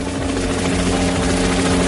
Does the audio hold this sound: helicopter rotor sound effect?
yes